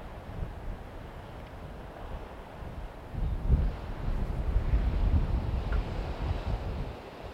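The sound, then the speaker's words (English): Ocean waves wash steadily onto the shore in a continuous low rushing roar, swelling louder about halfway through, with a windy hiss mixed in and no voices. “As you hear the sound of the waves, imagine them washing over the body,”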